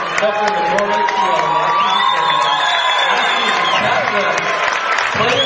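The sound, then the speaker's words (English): A crowd of Warrior fans at a game applauds steadily for about five seconds as two players come into the game, dense clapping mixed with scattered cheers, while voices talk over the top of it. “And a nice round of applause from the Warrior fans.”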